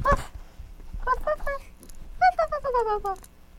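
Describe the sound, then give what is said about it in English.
A small dog yaps in quick high-pitched bursts, a short cluster of three and then a faster run of several more, moderately loud. “It's a little doggy.”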